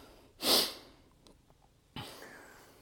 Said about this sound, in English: Probably why you can hear me puffing and panting.